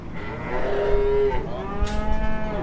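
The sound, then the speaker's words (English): Cattle mooing inside a busy livestock auction barn, with long overlapping bawls from calves weighing 100 to 125 pounds and cows, one sustained low moo standing out near the middle, over a steady background rumble. “There's some calves right here that need to be on their mamas.”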